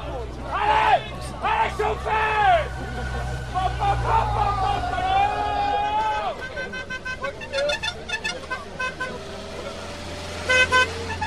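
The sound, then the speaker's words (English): A lively, very thick and animated roadside crowd of cycling race fans cheers and yells, with rising shouts, steady babble and several horn toots blaring over passing traffic noise. “And in a minute here, you're going to be hearing the fans. The fans are absolutely crazy.”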